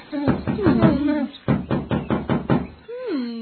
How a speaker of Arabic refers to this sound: وعندما حل المساء سمع الأصدقاء الثلاثة صوت الباب مرة أخرى، فقالت الحمامة بق بق بق أظنه الفأر، أنا لا أخطئ أبدا.